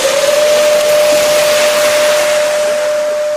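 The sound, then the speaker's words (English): An air raid siren blares a single sustained, mid-pitched tone that rises slightly at the start and then holds steady, loud over a constant wash of hissing noise, with no voices, during a civil defense drill in South Korea for the Uchi Freedom Shield exercise, as police halt vehicles and pedestrians go to shelter. “An air raid siren blares as police halt vehicles and pedestrians are ushered to shelter.”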